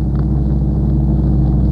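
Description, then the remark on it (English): Boat engines run at full speed with a steady, loud, low-pitched rumble that holds constant throughout, with no voices over the droning motor noise. “Right, cut engines.”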